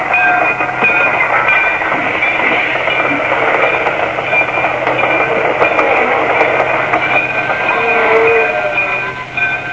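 train running on rails

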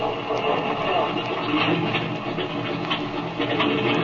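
airplane engine starting up

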